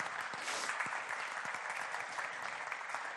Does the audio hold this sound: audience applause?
yes